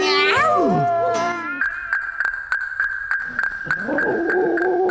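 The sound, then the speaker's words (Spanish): A stray female cat in heat lets out a loud, wavering yowl that slides up and down in pitch, then gives way to a steady high tone with clicking before another drawn-out moaning cry. “Bueno, es que la gata maulla bien raro. Antes yo pensaba que era un bebé llorando, pero bueno, son los sonidos de los que las dotó la naturaleza para conquistar a los machos.”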